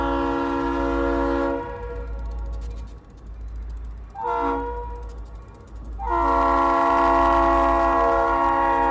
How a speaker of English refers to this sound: Train engineers are required to blow their horns 1/4 mile before each roadway crossing. It's the same pattern each time, 2 long blasts, followed by a short, and then another long one.